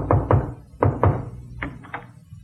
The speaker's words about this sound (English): Suddenly there was a knock on my door.